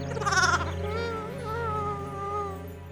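A lamb named Oscar with a broken leg bleats in one long, quavering cry that starts with a bright, strained burst and then settles into a steady, wavering tone lasting a few seconds, with no voices.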